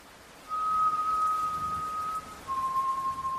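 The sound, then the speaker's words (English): Someone in a house whistles a slow, soft tune: one long, steady note held for nearly two seconds, a brief pause, then a second sustained note slightly lower in pitch, over a faint hiss. “Someone was whistling a slow, soft tune.”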